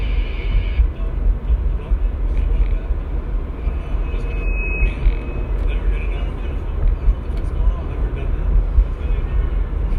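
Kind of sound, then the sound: vehicle, pickup truck driving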